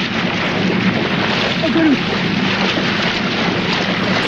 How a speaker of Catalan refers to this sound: O sigui, aquest xipolleig és ell dins l'aigua abraçant un cocodril, eh? De nit.